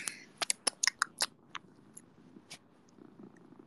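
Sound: cat purring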